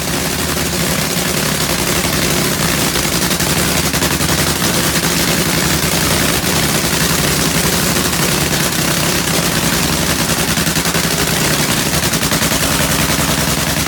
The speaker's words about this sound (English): There's nothing like the sights and sounds of a nitro funny car warming up.